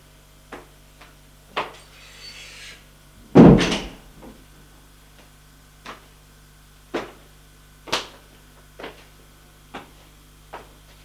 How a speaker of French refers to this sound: Frappe à la porte. Entrez ! Il entre.